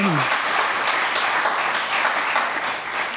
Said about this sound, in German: Sie wird, kann man schon mal jetzt klatschen, genau.